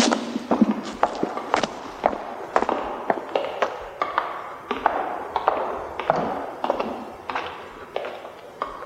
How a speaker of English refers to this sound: Cleaver, you can drop in the sound of those clip-cloppy shoes now. Right now. There we go.